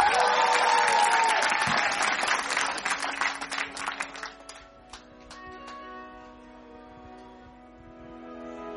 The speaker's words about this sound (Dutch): Geef haar een heel groot applaus.